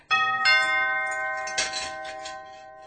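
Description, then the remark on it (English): A doorbell chimes two bright, ringing notes in quick succession, the tones lingering and slowly fading, with a short rattly burst partway through the decay. No one speaks. “Suddenly there was a ring at the door.”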